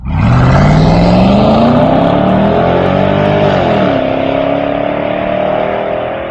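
A car engine revs hard, the pitch climbing steadily as it accelerates, then shifts and settles into a loud, sustained drone close by. No one speaks.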